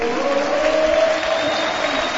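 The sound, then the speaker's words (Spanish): A stadium crowd at Balaídos in Vigo roars steadily as Augusto Fernández enters the pitch, with a thin sustained whistle or two threading faintly through the broad wash of noise. The din stays loud and even throughout, with no distinct voices. “Uy, algún silbidito perdido por entre la grada”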